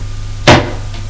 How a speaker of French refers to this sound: Voir que la porte de la chambre est entrebâillée. Elle y va. La porte s'ouvre.